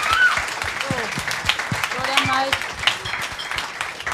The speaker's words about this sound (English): Oh, yeah. One more round of applause for her. Doing it like a fucking champion.